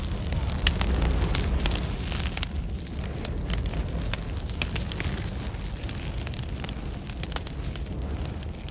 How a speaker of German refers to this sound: Aber da sie ihre Nadeln und Äste nicht abwerfen, damit das Feuer seinen Weg hoch in die Kronen zu den Zapfen findet, dauert es viel länger, bis sich genug Brennmaterial angesammelt hat. Dafür lodert es dann sehr heiß und intensiv.